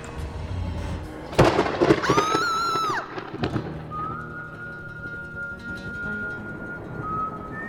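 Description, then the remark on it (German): A sharp, loud thunderclap bursts in and rumbles for a couple of seconds, followed by a quieter stormy background with a thin, steady whistling tone. “Es fehlt eigentlich nur noch Gewitter.”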